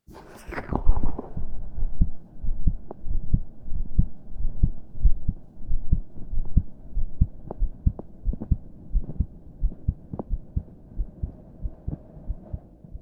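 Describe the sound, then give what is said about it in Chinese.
A rapid, steady heartbeat heard through a doctor's stethoscope during a heart and lung check: muffled low thumps repeating about twice a second over a soft, constant hum, fairly loud, with no voices. “心跳声太响了，你得放松点。”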